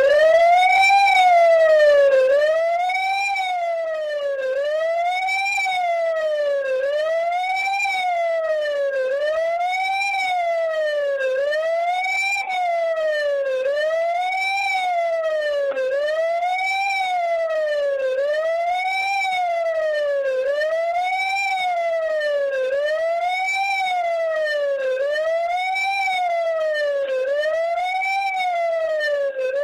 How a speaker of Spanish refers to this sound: Vamos a escuchar la sirena que recuerda este momento.